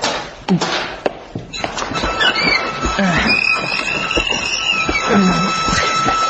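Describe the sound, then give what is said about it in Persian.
A large, powerful hydraulic press running, with water inside running from one part to another, heavy mechanical thunks and clanks over a steady rumble, plus sustained high-pitched whining and squealing tones that rise and fall throughout. “یه پرس هیدرولیک واقعا خیلی بزرگ و قویه.”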